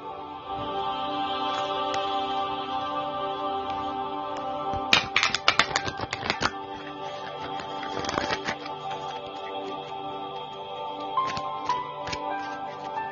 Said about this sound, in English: Shuffling these cards.